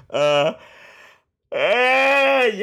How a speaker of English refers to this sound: I'm yawning so much, but anyway